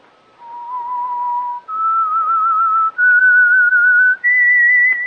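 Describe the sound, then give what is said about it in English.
A person whistles the short signature melody of the radio show The Whistler, the Signal Oil Program: four long, steady notes, each stepping higher in pitch than the last, loud, with brief breaths between them. “That whistle is your signal for the Signal Oil Program, The Whistler.”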